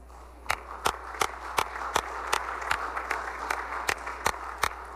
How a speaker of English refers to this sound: Let's give them a round of applause for taking time out of their schedule to be here. But also the guests of the 5th, the Senator from the 5th, please rise again and be recognized in the Missouri Senate chamber.